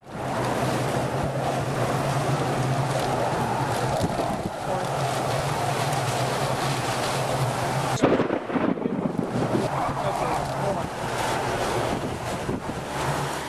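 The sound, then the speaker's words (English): The howl of an approaching tornado in Joplin, Missouri, recorded by a storm chaser as it reached the town: a loud, unbroken roar of wind that rushes steadily for the whole recording, buffeting the microphone, with a brief gusty lurch partway through and no voices. “I think even a child who has never heard this sound would get prickly hairs on the back of a neck, as the storm chaser recording of a howl in Joplin, Missouri, just as the twister that killed hundreds came to town.”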